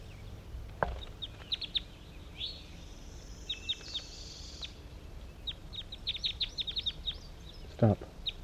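Captured birds at a net site on a hillside give quick, high-pitched chirps in scattered clusters that grow busier toward the end, over a steady low hiss, with two sharp knocking bursts near the start and finish.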